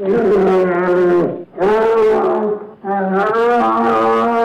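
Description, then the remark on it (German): A wounded bear, hit but not killed by a shot, roars loudly as it charges at the shooter: three long, sustained, throaty bellows separated by brief gaps, with no other sounds or voices around them. “trifft den Bären zwar, dieser ist jedoch nicht tot, sondern geht auf den Schützen los.”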